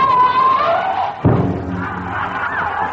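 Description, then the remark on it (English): A single heavy, low thud lands about midway as an elephant butts a boy in a circus act, over a continuous murmur of crowd noise and voices that keeps going before and after the impact. “the elephant butted his friend Henry”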